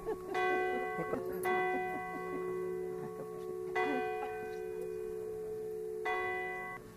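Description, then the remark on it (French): A church bell in Saint-Savin, Hautes-Pyrénées, France, tolls four times at uneven intervals as the Tour de France passes, each strike ringing out with rich, lingering overtones that blend into a steady hum, with faint ambient murmur in the background. “Là où le Tour de France passe, les cloches sonnent.”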